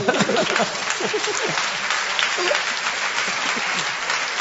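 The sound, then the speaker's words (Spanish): Steady audience applause during a comedy show fills the whole stretch, a dense crackle of many hands clapping at a constant loudness, with a few voices murmuring faintly underneath. “Ustedes aplauden y están contentos porque no se cruzaron.”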